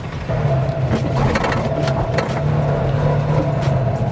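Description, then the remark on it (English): The horn of a very small car, with a top speed of 70 km/h, hoots in two sustained, steady tones separated by a brief pause, with a low engine rumble running underneath the whole time. “I mean, it's got all the other things that, you know, a normal car has, like a hooter.”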